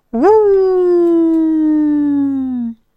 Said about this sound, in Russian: Первый сыщик, подняв морду, издал собачий вопль отчаяния. Второй сыщик сделал то же самое.